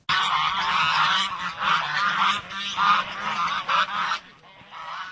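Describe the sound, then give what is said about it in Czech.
A flock of geese on a stream in the village of Holuboj honks loudly, many overlapping calls forming a dense, continuous clamor for about four seconds before it thins out to a few scattered cries. “Spíš než auto, tu potkáte koníka s povozem, večer se přes náves vracejí krávy z pastvy a potok je plný hus.”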